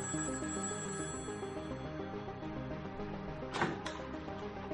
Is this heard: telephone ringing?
yes